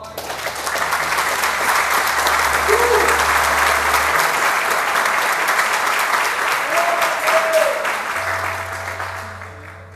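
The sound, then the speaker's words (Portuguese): An audience applauds steadily for about ten seconds, a dense, even wash of clapping that holds loud throughout before easing slightly at the end, with a few voices calling out underneath. “Vamos aplaudir.”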